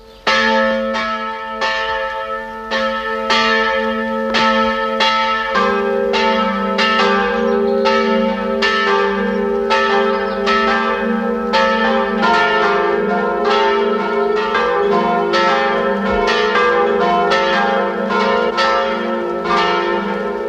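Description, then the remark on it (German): The bells of the parish church of Werfenweng, at the foot of the Tennengebirge in the state of Salzburg, peal together at 12 noon in a steady, overlapping ring, loud and sustained for the whole stretch, with rich lingering tones and no voices. “Es läuten die Glocken der Pfarrkirche Werfenweng, Land Salzburg.”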